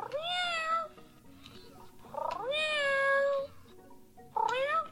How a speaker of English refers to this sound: That meowing you're hearing is from a companion robot pet made by toy company Hasbro.